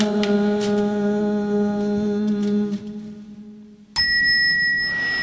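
A bell rings with a long, sustained tone that slowly fades, then a second, brighter strike rings out sharply near the end, leaving high shimmering overtones.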